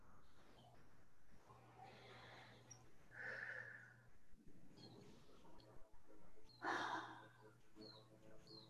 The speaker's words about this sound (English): And I'm really consciously breathing in through my nose and out through pursed lips.